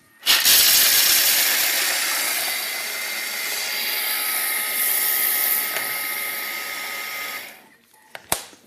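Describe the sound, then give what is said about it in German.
A blender grinds 240 grams of dry cashew nuts, before any water is added, with a loud, harsh, steady whir and gritty rattle for about seven seconds, then cuts out, followed by a couple of sharp clicks. “Dass wir nicht so lange mixen, gehen wir hin und tun zuerst die Nüsse trocken mixen, bevor das Wasser dran ist.”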